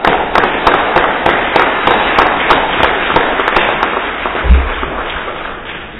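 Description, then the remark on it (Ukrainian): Loud, sustained applause from an audience after a lecture at an Academy of Sciences meeting, with dense overlapping claps forming a steady crackling wash that holds its strength for several seconds and eases slightly at the end. No one speaks. “Бурхливі опити.”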